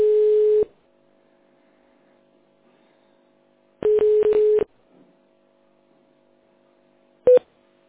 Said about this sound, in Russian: Пожалуйста, переведите телефон в тоновый режим клавиши звездочка и наберите внутренний номер абонента.